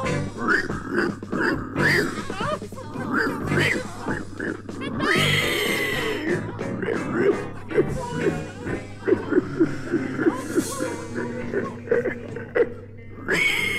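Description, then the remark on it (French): Strained, wavering vocal sounds of a big bad pig character mixing pig-like grunts with tuneless, off-key singing, fairly loud, bursting in uneven phrases with short breaths and a raspy, cracking voice near the end. “Malheureusement ou heureusement, le grand méchant cochon chantait très faux et il n'avait plus de voix du tout.”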